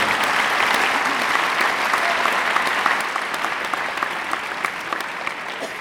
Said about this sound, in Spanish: Por favor, un aplauso para Roberto González.